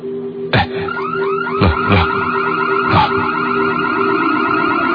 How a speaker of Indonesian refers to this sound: Aku dengar semua alarm mobil jenazah yang ada di parkiran itu menyala semua.